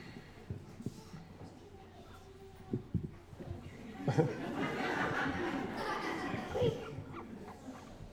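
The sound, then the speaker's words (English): A guinea pig, being exhibited as if at a state fair, squeaks in a busy burst of high, chattering calls that swell midway and continue for several seconds, with some soft voices and handling noise around it. “All that squeaking.”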